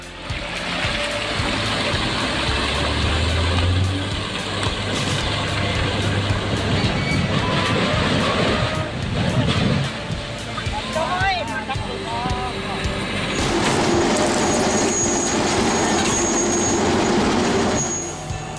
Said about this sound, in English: Whoa! This Comptech Axe Store 8012 shredder is insane. It's like a monster truck for recycling, chewing through huge piles of stuff and turning it into compost or fuel. It's got a super powerful engine and can handle a crazy amount of material.